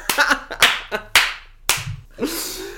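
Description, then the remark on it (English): A short burst of applause made of a handful of sharp, loud claps at uneven intervals, each with a brief ringing tail, and no voices. “All the round of applause for that one.”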